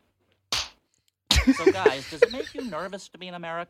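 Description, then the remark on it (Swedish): A single sharp slap across the face rings out, followed after a brief silence by voices talking and chuckling. “Örfilen är fin faktiskt.”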